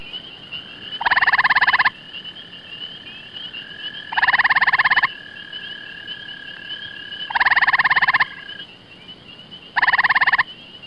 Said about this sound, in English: Grey tree frog.